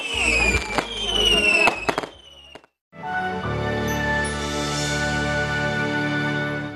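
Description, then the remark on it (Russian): Fireworks burst in the sky at the close of a festival, in rapid succession for a couple of seconds, sharp cracks and booms over a crackling wash, then cut to silence before a steady musical backdrop takes over. “В завершении фестиваля небо раскрасили брызги фейерверка.”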